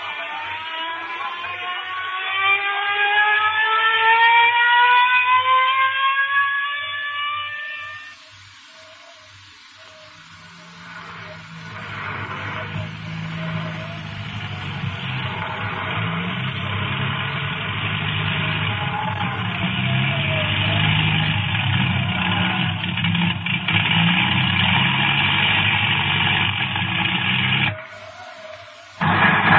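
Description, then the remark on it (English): A whining engine climbs steadily in pitch, then gives way to a loud, continuous propeller-like drone that rumbles on without pause as a plane approaches and circles overhead above an airfield. “Plane approaching, sir. Plane circling the field.”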